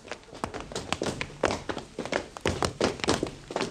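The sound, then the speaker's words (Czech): Quick footsteps of a group of returning boys draw closer to a clubhouse door, a steady run of firm, overlapping steps, with no voices over them. “Zrovna včas, nebo se ozvaly kroky vracejících se”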